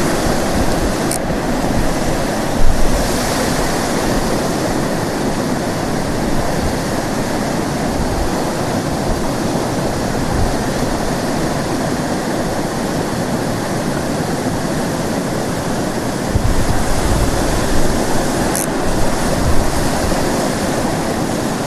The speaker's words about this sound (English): No idea how I'm going to get over this waterfall.